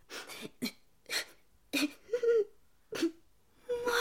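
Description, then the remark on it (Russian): A young boy cries and whimpers in short, broken sobs with sniffly breaths between them, fairly quiet, rising into a longer wavering wail near the end. “Мальчик, а почему вы плачете?”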